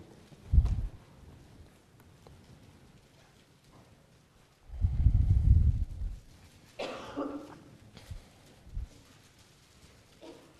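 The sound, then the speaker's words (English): Soft, scattered rustling of Bible pages as people turn to Genesis chapter 37 during a sermon, with a brighter crinkly burst partway through, mixed with a few dull low thumps and a cough-like sound. No one speaks. “I'll wait till I stop hearing paper.”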